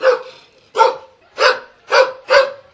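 On a cold, windy day, dogs in front of a Roma camp near Bujanovac bark repeatedly in a steady rhythm, about five loud, sharp barks in under three seconds, with no talking.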